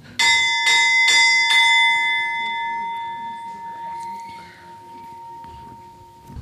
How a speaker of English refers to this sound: Okay. Yes, you can ring the bell. Да, можно звонить в колокол.